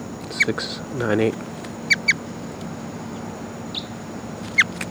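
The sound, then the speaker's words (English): Wild crossbill calls: a handful of short, sharp, high chip notes, a quick pair in the middle, scattered over a steady hiss, with a brief low murmuring sound near the start. “I start recording 1140 Wild Cross Bill here.”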